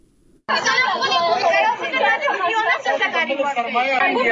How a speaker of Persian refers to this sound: صدای گریه و ناله شماره از دختران محصل انستیتوت های طبی در افغانستان است که امروز پشت درهای بسته این انستیتوت ها قرار گرفتند.